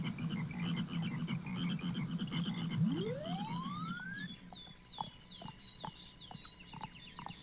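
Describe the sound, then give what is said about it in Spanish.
A dense chorus of frogs croaks in steady, throbbing pulses, then a rising whistle sweeps upward and quick repeated chirps follow over the fading croaks. No one speaks. “Pero las ranas se burlaban.”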